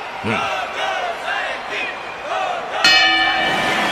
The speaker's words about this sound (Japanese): さあ大声援の中ゴングが鳴りました。